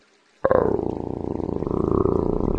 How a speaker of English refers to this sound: Then he heard a low, menacing growl behind him.